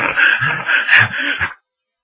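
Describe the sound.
A voice imitates heavy, rapid panting like an overheated dog, standing for a fat man of nearly 50 out of breath from running with his mouth wide open: several harsh, breathy gasps in a quick rhythm, loud, ending abruptly into silence.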